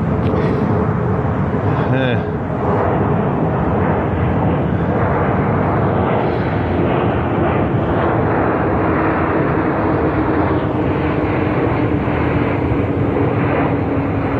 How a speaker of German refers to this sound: Alle 45 Minuten fliegt ein Flugzeug über mich hinweg. Das ist nicht schön. Ich kann froh sein, dass es wenigstens nichts auf mich hat fallen lassen.